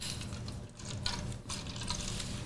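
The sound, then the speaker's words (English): Wine pours steadily into a soft cup, a continuous splashing gurgle lasting a couple of seconds with slight breaks in the flow. “I'm on the wine. Gosh, I'm gonna pour my soft cups.”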